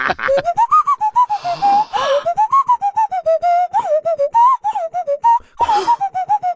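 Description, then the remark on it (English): A nose flute, played by blowing air through the nose, plays a breathy, warbling tune, its pitch wobbling and sliding between notes, with a couple of rushing breath noises breaking the melody. “It's a nose flute and at the same time a full frontal lobotomy.”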